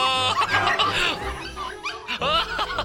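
Several puppies yap and whimper in quick, overlapping, high-pitched bursts, with a brief lull in the middle before the excited yips pick up again.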